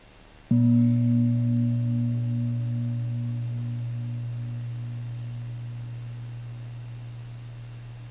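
A single deep meditation gong strike rings out after a brief quiet, its low humming tone with a wavering overtone sustaining and slowly fading over several seconds, with no talking.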